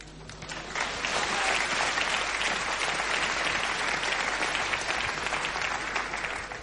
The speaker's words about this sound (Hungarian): A tapsot nem akartam kihagyni, a mesterséges tapsot és a kínzás és a tömegmészárlás tapsait